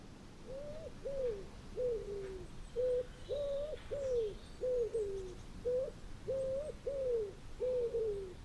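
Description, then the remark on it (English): Birds calling in the woods: a steady series of soft, low cooing hoots, about a dozen short calls in quick succession, clear over a faint background hush. “Venus birds, billing in the woods all the long summer long.”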